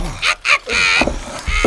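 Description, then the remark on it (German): Two quick, muffled hammer blows land on a small glass-encased model artwork wrapped in a tea towel, followed by a sustained crunching and cracking as it breaks, then a couple of softer knocks. “Ich wickle es in ein Geschirrtuch. Mal her! Und dann nehme ich einen Hammer.”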